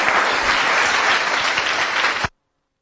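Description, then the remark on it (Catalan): A full hall of people applauding at a town council plenary session, a dense, steady wash of many hands clapping at a loud, even level for about two seconds before cutting off abruptly into silence. “I novament parada de micros, però sí que us podem dir que està la sala plena i tothom aplaudint.”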